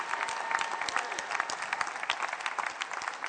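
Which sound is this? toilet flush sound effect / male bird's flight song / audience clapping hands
audience clapping hands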